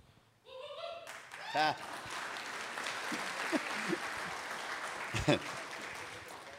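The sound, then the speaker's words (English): A crowd seated at tables in a room full of people breaks into steady applause, started by the speaker's mother, lasting several seconds, dense clapping mixed with scattered cheers, a shrill whoop at the start and voices calling out over it. “Thank you, Mom, for starting the applause.”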